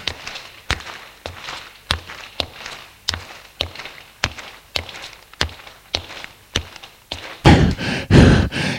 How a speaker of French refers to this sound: Il le met dans sa poche et sort de l'appartement. Descend les escaliers.